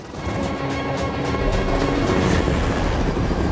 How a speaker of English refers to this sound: As the chopper descends, Bear explains, the Secret Service has shut down the airspace. This helicopter can only get me so far.